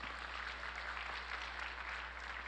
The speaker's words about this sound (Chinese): 把掌声来归给神。 Amen。